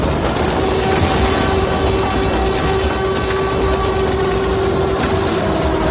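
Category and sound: signal or alarm, air raid sirens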